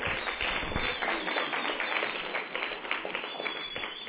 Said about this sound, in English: Without the clapping, the whistle just... So why don't everybody clap so she can whistle? Go ahead. There you go.